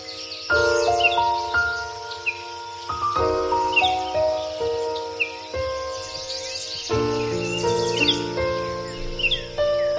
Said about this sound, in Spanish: El sonido de los pájaros.